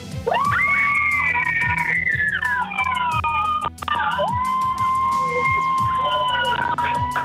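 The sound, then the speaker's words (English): A large audience on the Sunshine Coast, asked to scream as loud as they can, screams at full volume for several seconds, many high, wavering voices overlapping into one sustained roar, with a brief dip in the middle before it surges again. “Okay, I need everybody to scream as loud as we can.”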